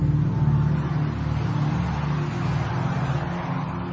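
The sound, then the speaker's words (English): Steady roar of road traffic moving on a carriageway, a continuous low engine and tyre rumble with no pauses, fairly loud, with no voices over it. “From moving traffic again.”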